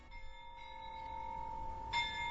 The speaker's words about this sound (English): National pride rang out in Kyiv. The bells of St. Michael's Cathedral chimed at midnight as Ukrainians prayed for survivors as well as the fallen and are reminded that after a year of war, Ukraine still stands.